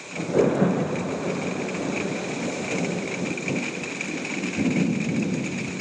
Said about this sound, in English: And some good thunder.